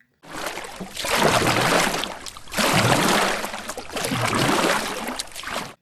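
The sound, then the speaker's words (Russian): Three long, splashing strokes of a bear on an ice floe paddling the water with its paws, each a broad rushing swish with a brief pause between, fairly loud with no voices. “он выбрал большую льдину, забрался на нее вместе с елкой и стал грести лапами воду.”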